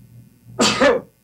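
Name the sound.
sneeze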